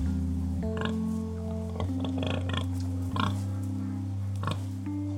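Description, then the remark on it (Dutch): Six pigs on Boer Boris's farm give several short grunts and oinks in quick bursts over a steady, sustained musical backing, clear, with no one talking. “Daar horen ook zes varkens bij.”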